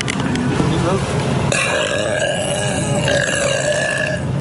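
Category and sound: human body sound, burping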